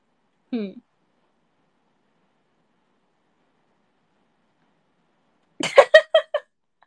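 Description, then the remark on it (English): A voice imitates a rat with squeaky vocal sounds: one brief rising squeak, a long silence, then a quick run of four or five chirpy squeaks. “I'm just making some rat noises.”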